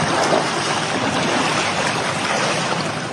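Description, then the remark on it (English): Floodwater rushes through the flooded streets of Opole in southern Poland, where residents wade through waist-deep water. It is a steady, loud wash, a dense unbroken roar of churning water that holds constant throughout, with no voices. “In the southern Polish city of Opole, residents flee their homes, wading through waist-deep water along flooded streets.”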